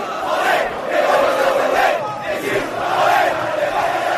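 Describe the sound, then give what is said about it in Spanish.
Real Oviedo football fans chant and cheer together, partying through the night after the team reached the promotion play-off final, in a loud, steady roar, with rising and falling waves of voices keeping a rhythmic, celebratory pulse throughout. “Se ha metido en la final del play-off de ascenso y, claro, ha habido fiesta durante toda la noche.”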